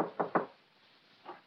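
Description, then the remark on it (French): Knocking on a door: two quick, solid raps, then a short pause and a single softer knock, with no voices. “Mais frappons à sa porte.”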